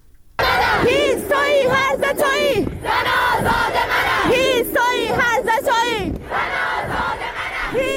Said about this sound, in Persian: همچنین تصاویر دریافتی نشان می دهد که دانشجویان دانشگاه علم و فرهنگ تهران امروز تجمع کرده و شعار سر دادند.